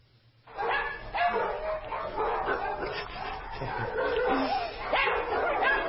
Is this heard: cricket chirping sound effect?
no